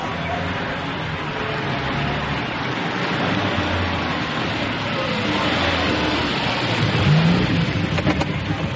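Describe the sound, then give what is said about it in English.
A car engine rumbles steadily in a continuous, broad roar, then swells louder near the end as the vehicle accelerates and drives off. “We've arranged for a car to take you there.”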